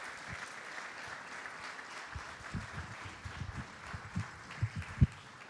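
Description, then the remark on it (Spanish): A crowd applauds steadily, given as a loud round of applause in honour of two people who made a gesture of kindness: a dense wash of many hands clapping at moderate volume, with a few sharper, louder claps standing out toward the end. “Yo quiero que le brindemos un fuerte aplauso de honra a dos personas que han hecho un gesto de bondad.”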